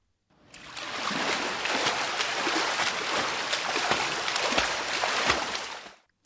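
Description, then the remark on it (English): Continuous splashing and churning of water from someone swimming in a river, with irregular slaps and sloshes over a broad watery wash, steady for several seconds, no voices. “On Mondays, I swim in the river.”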